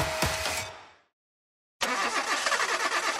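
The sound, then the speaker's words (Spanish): A car engine in a radio advert for Seafoam Motor Treatment roars loudly, fades out, and after a short silence starts up again with a steady, rumbling drone that continues to the end. No one speaks. “Tranquilo, estoy hablando de tu motor.”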